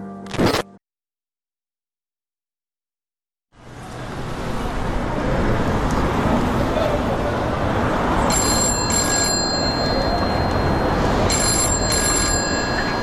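telephone ringing

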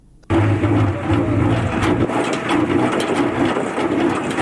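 honey extractor machine running

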